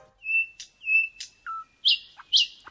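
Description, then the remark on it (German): A sparrow-sized nightingale, a bird with dark brown wings and a light brown belly, sings a clear series of whistled notes and sharp trills, bright, with short pauses between phrases and no voices. “Denn mit ihren dunkelbraunen Flügeln und dem hellbraunen Bauch ist die spatzengroße Nachtigall ein eher unauffälliger Vogel, bis sie eben den Schnabel aufmacht.”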